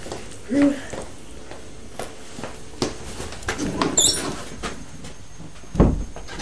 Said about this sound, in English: No, don't bang the door.